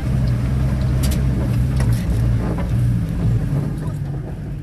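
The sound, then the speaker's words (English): A heavy vehicle engine drones steadily, a low rumbling hum with rattling and clanking over it, as a homemade armored truck carrying Syrian Democratic Forces fighters drives toward the center of Raqqa, Syria, without any voices. “It's a tight squeeze inside a homemade armored truck with a couple of her fighters driving towards the center of Raqqa.”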